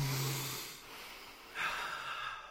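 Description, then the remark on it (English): A group takes a slow, deep breath together: a long airy inhale followed by a fuller, breathy exhale, fairly soft, with no talking. “Let's all take a deep breath together right now.”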